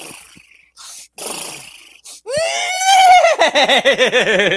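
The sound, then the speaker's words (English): A person imitates a horse neigh with a few breathy snorts, then a loud, rising whinny that breaks into a rapid, pulsing high-pitched whinnying trill. “let's do a horse. Let's do a horse together.”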